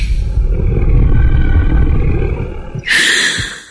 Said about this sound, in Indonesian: terdengar suara hembusan nafas sangat berat.